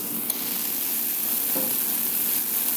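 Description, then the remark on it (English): Champagne bubbles from a freshly opened second bottle fizz steadily in a glass, a dense, soft crackling hiss that holds even for the whole stretch, with a few faint pops and no voices. “And you could hear those bubbles.”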